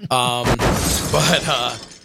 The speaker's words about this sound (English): And he's also, if he's not familiar, he's like, why do I keep hearing a car crash?